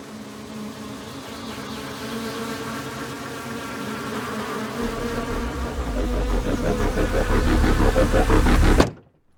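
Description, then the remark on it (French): A dense, steady buzz of many honeybees swarming, swelling gradually louder over several seconds with a low droning hum beneath, then cutting off abruptly. No voices. “Est-ce que demain, comme les abeilles de Myriam, tous nos efforts estivaux seront tournés vers un seul objectif, se rafraîchir pour survivre à l'été?”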